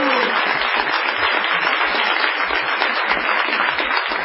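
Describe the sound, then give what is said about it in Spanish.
A live show audience greets performer Patricio Barto, applauding steadily with dense, continuous clapping and scattered cheers, loud and sustained throughout with no one speaking over it. “Vamos a saludar inmediatamente a los gritos a Patricio Barto.”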